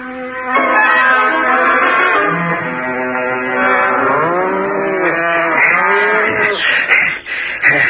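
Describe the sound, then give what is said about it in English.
A herd of cattle and buffalo, being separated into cows, bulls and buffaloes, lowing loudly and almost continuously, many overlapping moos rising and falling in pitch, with no talking. “Three brother and I have separated the cows from the bulls and the buffaloes.”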